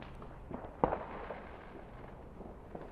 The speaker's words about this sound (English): We're recording from a war zone. No, not really. It's fireworks. Welcome to Guy Fawkes Night in Auckland.